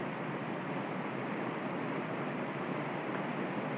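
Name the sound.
river water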